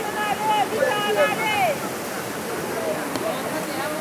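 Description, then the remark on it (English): A rushing river roars steadily throughout as migrants try to cross it in the Darien Gap jungle between Colombia and Panama; several voices shout and call out over the water in the first half before fading, leaving the constant rush of the current. “And here's what it sounded like as they tried to forge a rushing river.”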